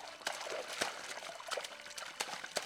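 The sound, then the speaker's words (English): A man splashes river water on his face at a river just outside a town: water trickles and splashes steadily, broken by several brighter splashy bursts at irregular moments, with no voices present. “He headed to a river just outside the town and splashed some water in his face.”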